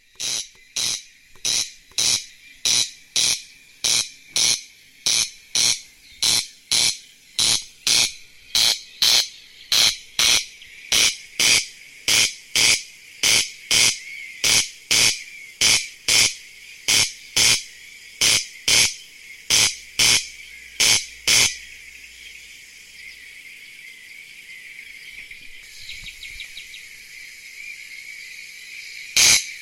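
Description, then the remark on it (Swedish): A bird's harsh, rasping call, heard from reeds and tall grass, repeated in a steady rhythm, roughly one dry crake per second, for about twenty seconds, then a softer hissing buzz and one final rasp. “Ja, det här var kanske inte den vackraste fågelsången som finns.”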